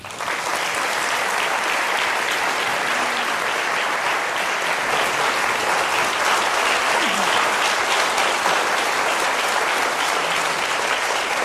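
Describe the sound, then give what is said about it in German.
Sustained audience applause at a church audience's evening lecture in Niederhöchstadt, welcoming the guest speaker, a physics professor: a dense, steady wash of many hands clapping at once without pause, loud throughout. “Begrüßt bitte mit mir mit einem warmen Niederhöchstädter Applaus”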